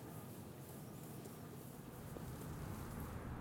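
Wind buffets the microphone in a steady, low rumbling rush of noise that swells slightly toward the end. No voices are heard.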